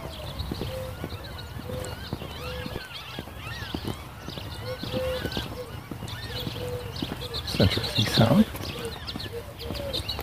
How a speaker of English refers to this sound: Like seagull. Not seeing any, but whatever it was a lot of them.